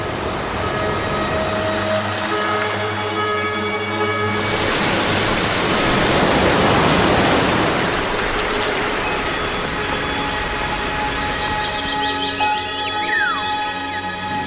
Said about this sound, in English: The slightest breath of a breeze, and this watery dust forms into drops. This is the origin of the rain, which rushes down in countless waterfalls.